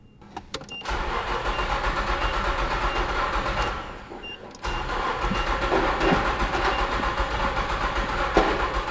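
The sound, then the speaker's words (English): A truck engine turns over as the key is turned after a new fuel pump was fitted and the battery reconnected, stumbles into a brief dip, then catches and roars steadily, a loud, rumbling idle that keeps running for several seconds with no voices. “Then the truck turned over and roared to life.”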